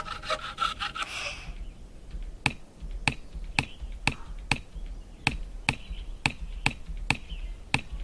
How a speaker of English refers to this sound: It will first play a carving sound, then a knife hitting wood sound.